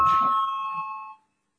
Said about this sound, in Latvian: Lūdzu, zvanu, balsosim par 21. Tieslietu ministra Bordāna priekšlikumu.